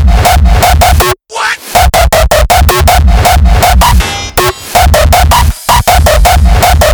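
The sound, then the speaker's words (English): Loud, rapid pounding as a hammer is brought down from above the head with a full arm motion: sharp metallic-sounding strikes land in a fast, steady rhythm over a ringing, noisy background, breaking off briefly twice before the blows resume. “Now, we will demonstrate how we deliver this pounding movement by placing the hammer above your head and using a full arm motion.”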